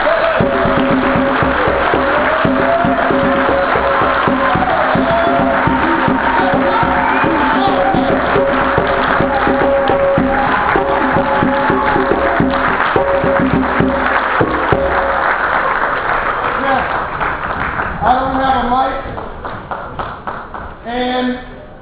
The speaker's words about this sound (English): And you need to stand up and give Andrew Young a round of applause.